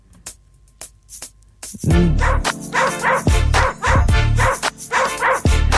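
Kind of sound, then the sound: animal, dog barking and yipping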